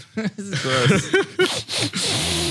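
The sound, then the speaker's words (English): A big, breathy sniff of a microphone during a Stinky Dragon recording, a harsh rush of air near the end, with overlapping voices talking and vocalizing throughout. “I'm gonna give my microphone a big sniff so the viewers can hear it.”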